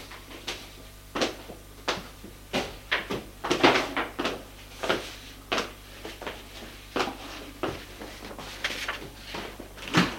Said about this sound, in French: Il prend le paquet. Et va ouvrir la porte.